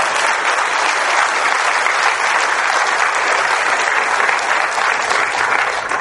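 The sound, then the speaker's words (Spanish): An audience applauds for Aruba steadily for about six seconds, a dense, even wash of many hands clapping at once with no voices standing out. “Así que denle un aplauso a Aruba, por favor.”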